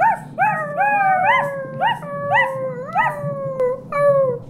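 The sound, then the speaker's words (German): A dog gives a rapid series of high, yelping howl-like cries, about eight in quick succession, as it chases off a wolf. The cries are loud, over a steady low background rumble, with no voices. “du hast den Wolf verjagt.”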